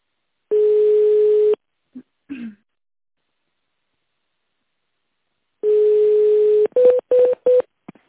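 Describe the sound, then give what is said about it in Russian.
A steady telephone dial tone hums for about a second, then after a pause returns and gives way to four quick keypad beeps as an internal extension number is punched in at a company's automated phone menu, with a few faint clicks between. “Для соединения с нужным специалистом наберите внутренний добавочный номер.”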